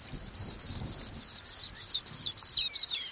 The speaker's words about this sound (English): A pipit sings in clear and cloudy skies alike.